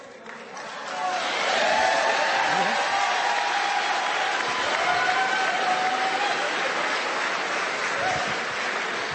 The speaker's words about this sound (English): This is GOP Representative Mike Flood. This was the town hall yesterday that all the big stories are about today. Here's him trying to keep a handle on a very unruly and raucous Nebraska crowd.